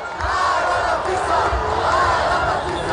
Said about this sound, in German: Ein historischer Moment in Ungarn, der nach Aufbruch und Erleichterung klingt. Hunderttausende Menschen feierten in der Wahlnacht den Sieg Modjas und die Niederlage Orbáns.